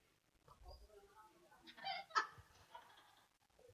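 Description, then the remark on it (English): A voice imitates baby birds in the nest chirping for food as a parent bird arrives, a short burst of high, squeaky peeping calls that peaks briefly in the middle, fairly quiet, with no other talking. “You know when the little birdies, when you get little bitty baby birds and they're in the nest, and when they see their mama or their daddy come at the nest, what do?”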